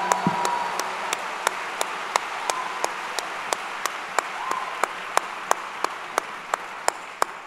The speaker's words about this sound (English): Don't let that go over your head. Clap it up for that, ladies and gentlemen.